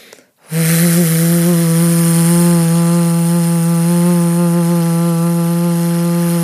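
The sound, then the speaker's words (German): As a vocal exercise, a person breathes in, then exhales while humming one steady, low buzzing tone in imitation of a ship's foghorn. It begins after a short pause and holds loud and unbroken, with a slight vibrating quality, to the end. “Also Atme ein und dann mache ein Geräusch wie so ein Nebelhorn beim Schiff.”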